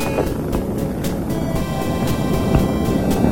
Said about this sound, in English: 4, 3, 2, 1, and liftoff of the Space Shuttle Columbia as NASA continues on the cutting edge of microgravity research.